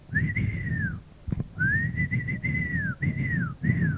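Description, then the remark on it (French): Several shrill, piercing whistle blasts in quick succession, each holding a steady tone that bends downward at the end, sounding over a constant low, rumbling noise of bleating animals. “Couvrant le tumulte des bêlements par des coups de sifflet stridents, des ordres secs, aboyés.”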